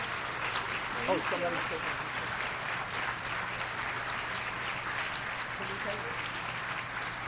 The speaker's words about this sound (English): Could we have a round of applause